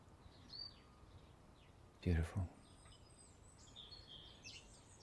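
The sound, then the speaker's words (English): Faint, high birdsong chirps and short whistled phrases scattered throughout, heard at the start of the new year 2017 in fine weather, over a low background hum, broken at one point by a brief loud low thump. “Weather-wise and birdsong-wise.”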